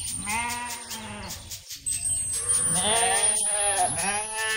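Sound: sheep bleating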